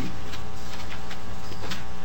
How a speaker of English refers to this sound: Yeah, I hear a lot of paper rustling. Just give our team a minute here till we pull this one up and get it in front of us.